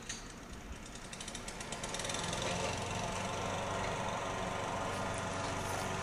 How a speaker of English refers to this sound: So by the sound of the lawnmower in the neighbor's yard, I think it's time to wrap up the podcast and say...